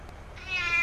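A single cat meow, drawn-out and tonal, rising in after a short quiet moment and swelling slightly toward the end; clear, with no one talking.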